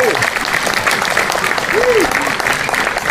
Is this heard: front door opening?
no